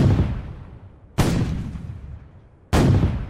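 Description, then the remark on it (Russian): Three heavy cannon blasts from fortress cannons at Perekop go off one after another at uneven intervals, firing at Tatar warriors lining up to attack. Each is a loud boom that rolls into a long, rumbling decay. No voices are heard. “Крепостные пушки ударили по выстраивающимся воинам Каплан-Герая.”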